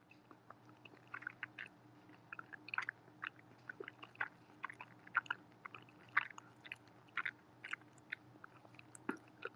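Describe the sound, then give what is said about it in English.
Wet chewing sounds of a person eating ramen during a mukbang repeat in an irregular rhythm, with crisp clicks and soft smacks of food being eaten over a low steady hum, no talking. “If you don't like eating noise, I'm so sorry.”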